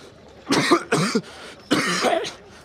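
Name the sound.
coughing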